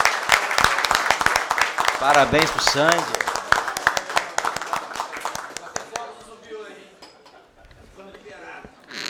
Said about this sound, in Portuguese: Eu gostaria aqui que pudéssemos dar uma salva de palmas aqui para o nosso companheiro aqui.